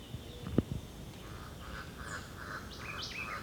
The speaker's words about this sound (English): Now about 30 meters away in dense vegetation along the ridgetop. It's the white eye again.